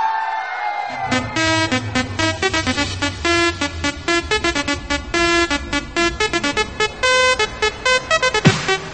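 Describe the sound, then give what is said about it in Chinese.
A loud concert crowd screams and cheers in shrill, high-pitched waves that swell and pulse continuously, kicking in after a brief quieter first second and holding steady to the end. “们最热烈的尖叫声在哪里？”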